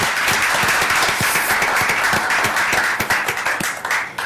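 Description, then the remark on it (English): A crowd at a Portland hearing bursts into sustained applause for the Urban League of Portland, dense overlapping claps forming a steady, loud wash of noise that holds for several seconds and begins to thin slightly toward the end. “Could we just give them a round of applause?”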